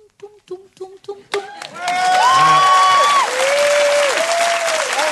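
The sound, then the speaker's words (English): A few short sung notes end, and a loud burst of audience applause erupts, sustained clapping mixed with whistles and cheering voices that carries on to the end. “I mean, I'm slightly upset that my singing the theme to Dream Stuffing did not get a round of applause.”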